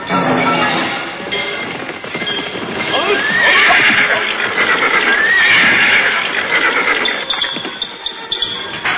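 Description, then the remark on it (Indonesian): A horse whinnies loudly twice, its rising, wavering calls standing out over a busy background of shuffling and hoof noise, with no one speaking, as riders arrive on horseback at Harum Perwani's hut after a journey. “Sebaiknya kita tinggal saja kuda kita di sini.”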